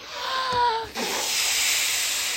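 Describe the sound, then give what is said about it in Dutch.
Breath is blown steadily into a balloon, a loud continuous airy hiss lasting a couple of seconds, with a brief high squeaky tone near the start. “Ballonnetje, ballonnetje, je krijgt een dikke kop. En we gaan nog een keer blazen.”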